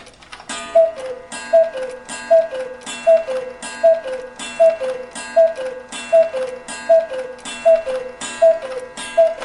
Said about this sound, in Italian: Ma questo orologio a cucù? Era di mio nonno. L'ho trovato in cantina e l'ho fatto rimettere a nuovo. Ti piace? Sì, cioè, abbastanza. Voglio dire, è bello, ma mi pare che suoni le ore a casaccio, no?